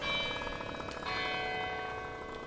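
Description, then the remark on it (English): Clock tower bells of a campus student building chime with rich, overlapping tones that ring on steadily, a fresh strike or two blooming out of the sustained resonance, with no one speaking. “If we're going by the student building, it'll start chiming.”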